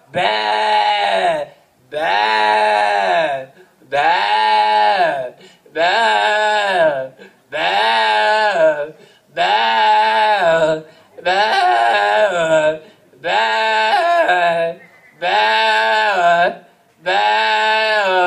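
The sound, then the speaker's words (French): A voice imitates a goat's bleating in about nine long, wavering, nasal cries, each lasting over a second with brief gaps between, loud and close, repeated in a steady rhythm. “Peut-être qu'il me faut, dans l'espoir d'un quelconque salut, gendre, en ré mineur, telle la dernière chèvre de ma grand-mère.”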